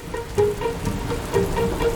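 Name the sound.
rain falling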